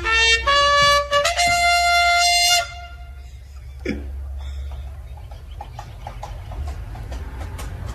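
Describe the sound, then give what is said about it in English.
A voice imitates a loud, high, wavering horse whinny for a couple of seconds, then a steady run of sharp clip-clop hoofbeat clicks follows, fainter and rhythmic, with no talking. Three high school boys in Ohio make the horse noises in a medieval-style promposal, riding in on an invisible carriage pulled by a hobby horse. “riding in on an invisible carriage pulled by a hobby horse. It's incredible horse noises.”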